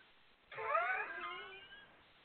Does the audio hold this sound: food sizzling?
no